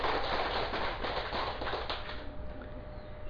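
A crowd claps steadily, a dense wash of many hands at moderate loudness that holds evenly, then thins out slightly toward the end. No one speaks over it.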